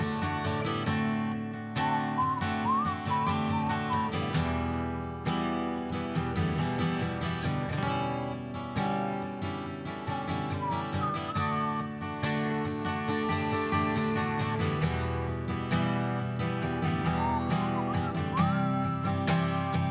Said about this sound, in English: Whistle